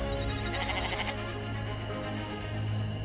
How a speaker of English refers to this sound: As I move from around a rock, very cautiously, I came face to face with the cutest mountain goat ever.